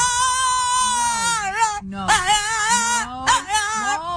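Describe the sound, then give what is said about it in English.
A dog howls from the window of a car in long, wavering tones that slide up and down in pitch like singing, with a few brief breaks between phrases, fairly loud. “This is a singing dog.”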